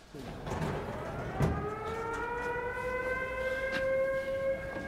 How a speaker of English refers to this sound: At 4:43 p.m, the sirens wailed and the population trooped to the shelters. Here we go again.